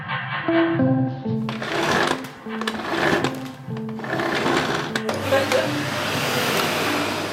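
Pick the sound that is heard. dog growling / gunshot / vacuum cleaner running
vacuum cleaner running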